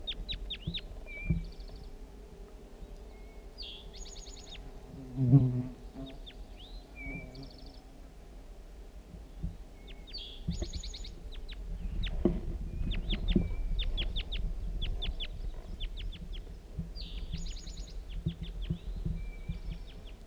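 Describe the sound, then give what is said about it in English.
What looks like a female bird, sitting in the top of a lone pitch pine, gives repeated bursts of short, high, scratchy chirps, pausing between runs, over a steady low rumble of wind or background noise. No one speaks. “And it looks like a female bird sitting in the top of this lone pitch pine.”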